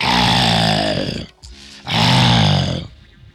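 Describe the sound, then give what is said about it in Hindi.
A lion tied to a banyan tree growls twice, each a loud, rough, low rumble lasting over a second, separated by a brief pause, with no talking. “गुर्रा कर अपना वक्त बर्बाद नहीं करो, गला खराब नहीं करो, कुछ फायदा नहीं होगा, बबूचा बोला।”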